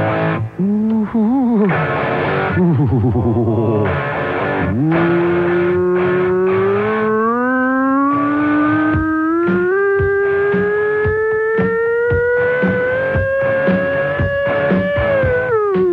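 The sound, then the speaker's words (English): A person's voice imitates a siren, first with quick wavering swoops, then a long, loud, unbroken wail that climbs slowly and steadily in pitch for over ten seconds. “The human siren.”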